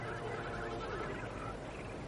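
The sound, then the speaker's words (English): A curlew gives a series of warbling, bubbling calls over a steady wash of background noise, with no one speaking. “Curlew! Can you hear that? That's a curlew!”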